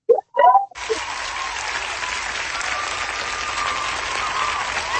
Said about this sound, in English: We're filling in the applause there.